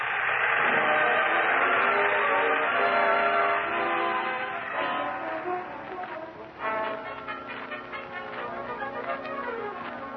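A train whistle blows loud and sustained, then the steady rhythmic clatter of wheels on rails takes over as the train keeps rolling. No one speaks.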